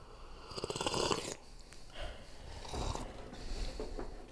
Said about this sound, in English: So we brewed some batch. Let's take our sniffy sniffs, some tastes, and see what's in here.